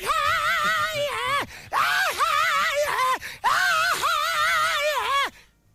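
A recorded yelling sound drop being played: a loud, drawn-out yell in three sustained bursts, the voice wavering and sliding in pitch with brief breaks between, forceful, with no talking over it.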